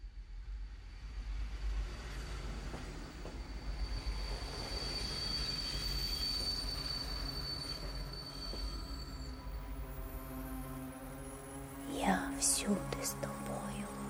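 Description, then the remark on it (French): A train rumbles steadily at a crowded station platform in a country at war, a low continuous roar with a high metallic whine, then its wheels squeal in sharp, shrill bursts near the end, with faint murmuring voices underneath. “Quel mot la mère a-t-elle chuchoté à son enfant, dans la foule, sur ce quai de gare, pour lui donner la force de traverser un pays en guerre, marcher seul vers l'inconnu.”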